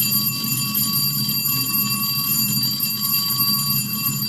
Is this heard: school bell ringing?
yes